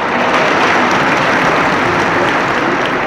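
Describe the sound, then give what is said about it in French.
An audience applauds the contestants after the jury's award. The clapping is a steady, dense, continuous patter of many hands at even loudness throughout, with no voices standing out. “Et on les applaudit.”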